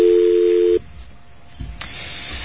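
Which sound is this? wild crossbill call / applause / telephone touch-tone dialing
telephone touch-tone dialing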